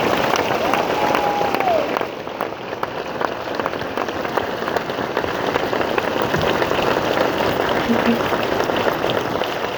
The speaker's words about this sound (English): Please join me in giving her a tremendous round of applause.